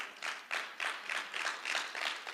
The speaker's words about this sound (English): And if you aren't clapping, I'm just going to assume the Holy Spirit's convicting you right now.